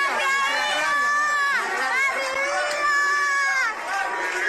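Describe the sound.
Residents of the Jesús María neighbourhood in Old Havana, Cuba, near the Capitolio, protest in the street near midnight, shouting and chanting together in long, rising and falling calls against MLC stores and Díaz-Canel, loud and continuous throughout, with overlapping yells from many people.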